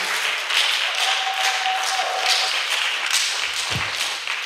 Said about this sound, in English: Come on, clap your hands and give me praise.